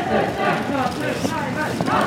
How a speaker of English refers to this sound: It's in Trier, Germany, where the chants of young protesters are the only sounds echoing through the freezing alleyways of this medieval town along the border with France.